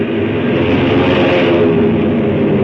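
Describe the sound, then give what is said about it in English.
A steady, loud engine drone fills the scene, a dense low rumble with a broad roar that holds constant throughout, from a propeller airplane's motors as the plane is turned into the wind to take off. “The motors caught, and I nosed her into the wind just as the four Chinese on the ground made a dash for the plane”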